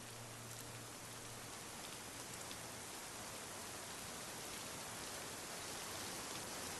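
Steady rain falls throughout, a dense, even hiss of drops hitting surfaces with faint patters scattered on top. No one speaks; the downpour stays constant.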